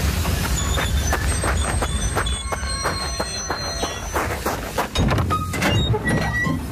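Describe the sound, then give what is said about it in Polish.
A train departing from Suchedniów rumbles, its heavy low roar steady throughout, with repeated clanking wheel beats, sharp metallic squeals and hissing rising over the din as it pulls away. “Nareszcie słyszymy odjeżdżający pociąg z Suchedniowa.”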